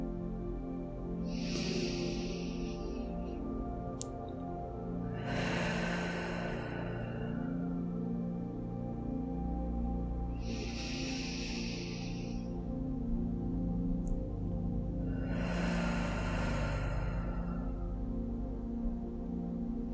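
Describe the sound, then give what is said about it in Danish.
Two slow, deep breath cycles, each a hissing inhale through the nose followed by a fuller, breathy exhale through the mouth, unhurried over a steady low hum. “Vi tager til at starte med tre dybe vejrtrækninger sammen for at komme ned i kroppen, inden vi skal ind i tankerne og forestillingerne. Vi tager dem ind gennem næsen og ud igennem munden.”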